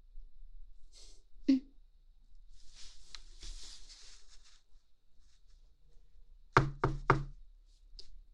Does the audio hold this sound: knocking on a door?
yes